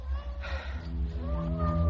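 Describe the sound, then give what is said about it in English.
A cat gives a long, low, drawn-out meow, fairly loud, its wavering yowl sustained for nearly two seconds against a low background rumble. “Oh, hi, cat. Oh, Jesus, get out of here.”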